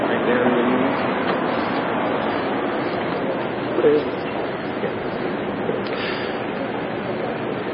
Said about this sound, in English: And what you're listening to is incident on Sunday at the Metro Transit Authority in downtown Santa Cruz